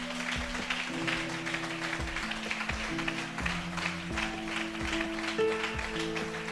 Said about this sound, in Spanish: Dele ese aplauso a mi Dios, hermano.